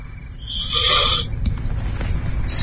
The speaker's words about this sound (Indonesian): Suara seperti ular. Mendengar itu, aku pun langsung terbangun dan segera mencari alat bantu apapun yang ada di dalam tenda.